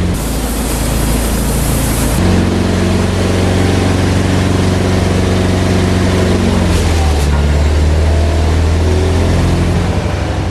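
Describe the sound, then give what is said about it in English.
An engine drives a hydraulic pump fixed to it, in a fluid-filled system linked by hoses through a control box to three lifting rams, with a loud, steady droning hum and whine that shifts pitch partway through as the load changes, after a brief opening hiss. “The pump is fixed to the engine, and the whole system is filled with hydraulic fluid.”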